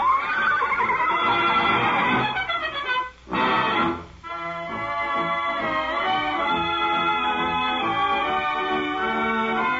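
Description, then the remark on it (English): A horse whinnies loudly as it races across parade grounds after a brass band, whose lively music plays steadily throughout, with a brief drop in the sound near the middle before the music swells back up. “that horse is racing across the parade grounds after the band”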